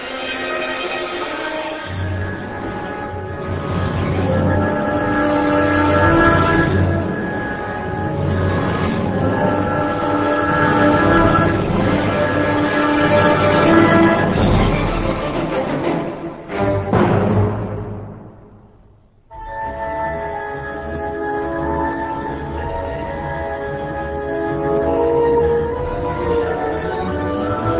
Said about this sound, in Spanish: Los efectos tímbricos de esta obra son muy notables, que aquí ya, en ese contraste entre la cuerda grave y las trompetas con sordina, se puede advertir un ejemplo de ese refinamiento en la orquestación.